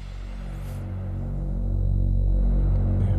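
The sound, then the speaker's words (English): A Moog synthesizer drone from an app demo: a steady, buzzy low tone thick with harmonics, mixed with added white noise, swelling gradually louder in the typical build-up as the filter cutoff opens. No voices. “Moog drone sound with some noise and added white noise to it and the typical build up, the filter cut off.”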